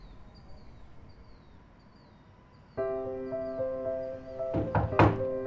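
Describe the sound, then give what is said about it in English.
Faint birds chirp in the background, then a doorbell chime rings out suddenly and lingers as someone arrives at the door, followed by two or three heavy knocks on the door. “There is someone at the door. Yes, Rexa, I know what a doorbell means.”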